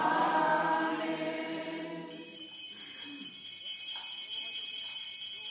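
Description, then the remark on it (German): A recorded church bell ringing, played from an MP3 player by a 68-year-old priest for a parish that cannot yet afford a bell tower: rich, sustained tones that shift into a thinner, higher electronic-sounding ringing, as if played back through a small speaker. No speech can be made out. “Da sich diese Gemeinde bisher noch keinen Glockenturm leisten konnte, spielt Angel Garcia das Läuten vom MP3-Player ab.”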